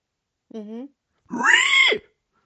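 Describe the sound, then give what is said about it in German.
A person imitates a pig with two loud vocal bursts: a short nasal grunt followed by a longer, strained oinking squeal, then silence. “Nein, auch Walriss, die Schweinegeräusche kann man auch nur laut machen.”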